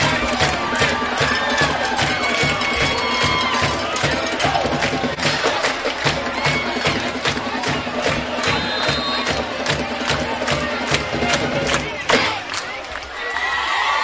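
The Good Hope home football crowd roars and cheers after a long touchdown run, dense and loud and continuous, with shouts and whoops layered throughout, sustained at high energy for the whole stretch before dipping slightly near the end.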